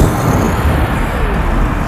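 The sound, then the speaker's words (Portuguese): Loud, deep thunder rumbles continuously for a couple of seconds, a dense low roar that stays steady without breaking into separate claps. No one speaks over it. “Choveu o trovão.”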